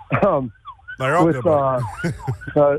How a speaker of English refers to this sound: as I apologize, the ambulance driving by me right now.